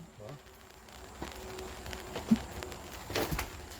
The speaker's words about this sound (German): mittlerweile regnet es. Ich werde mal ein bisschen die Regentropfen vom Geräusch her und auch von der Stimmung her einfangen.